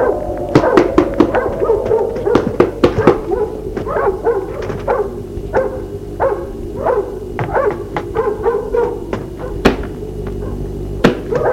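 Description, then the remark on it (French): A dog barks repeatedly at a farm, and a series of sharp knocks on the farmhouse door follows, the loud raps scattered irregularly through the rest of the scene. “Le chien aboie. Le frapper à la porte de la maison.”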